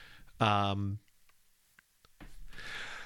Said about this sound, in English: Bless you. You can feel free to keep the sneeze in. It's up to you.